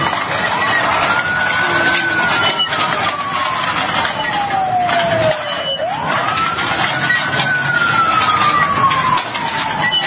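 An ambulance siren wails loudly and steadily, its pitch sliding slowly down and then swooping back up for a second long sweep, over a dense rumble of traffic noise.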